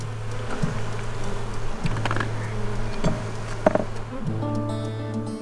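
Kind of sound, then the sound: insect, honeybees buzzing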